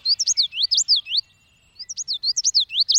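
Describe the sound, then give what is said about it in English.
A common yellowthroat sings alone, rolling out quick, high, chirpy phrases in a steady rhythmic run, pausing briefly, then repeating the bright pattern again. “Let's spotlight the common yellowthroat.”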